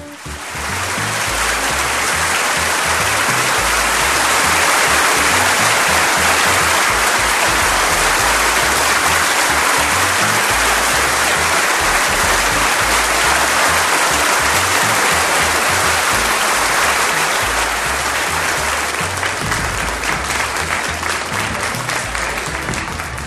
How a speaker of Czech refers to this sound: Tak, tento potlesk patřil vám, pane Horníčku.